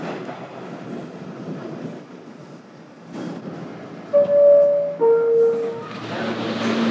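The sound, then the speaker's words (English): A train rumbles along the rails, then two loud tonal horn-like blasts or brake squeals ring out in succession before the steady rolling noise swells again. “Actually, oh, that should run for the train.”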